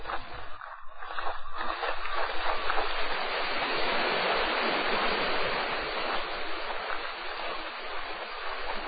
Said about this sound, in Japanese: その近くには滝があり、水音が響く。